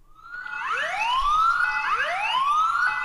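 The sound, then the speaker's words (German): A loud alarm siren wails alone, its tone sweeping upward again and again in quick, steady cycles, each rise climbing to a shrill high pitch before dropping back and starting over. “Wir hatten noch einen Alarm.”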